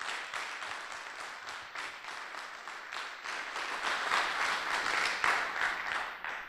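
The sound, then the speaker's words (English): An audience at a scientific meeting at the Perimeter Institute applauds steadily, a dense wash of many hands clapping at once that holds at a fairly even, moderate level and swells slightly toward the end. “So please, a round of applause for the Perimeter Institute and the organizers of the meeting.”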